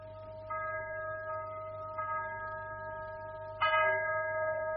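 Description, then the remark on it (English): A chapel bell rings out three times for a wedding at a slow, steady pace, each stroke leaving a long, humming resonance that overlaps the next, over a low background drone. “That chapel bell. Ding-a-ling-a-ling for the wedding.”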